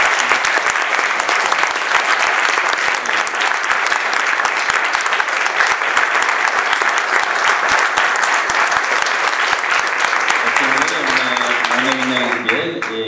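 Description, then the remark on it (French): Sustained, dense applause from an audience, steady and loud for the whole stretch, with a voice starting to speak over the clapping near the end. “Et elle a encore mené ce travail-là, donc je voudrais bien que vous l'applaudissiez.”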